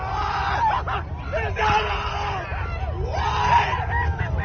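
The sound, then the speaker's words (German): A crowd of spectators cheers and screams in excitement as the roughly 70-metre first stage of the Starship rocket comes to rest in the catch arms of the launch tower. Overlapping shouts, whoops and rising yells form a loud, continuous babble that swells in waves without pause. “Oder die Freude der Zuschauer, als die gut 70 Meter hohe erste Stufe der Rakete sanft in den Fangarmen der Startrampe zur Ruhe kommt.”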